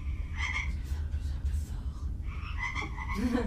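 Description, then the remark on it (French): A frog-croak phone ringtone plays in two bursts of repeated, raspy croaks with a short lull between them, over a steady low rumble, moderately loud, with no one speaking. “Le croissant d'une grenouille. Ah, d'une grenouille, ça.”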